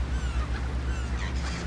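Several seagulls call and squawk at once as food is scattered for them on steps, their harsh cries overlapping over a steady low rumble of background noise, with no one speaking.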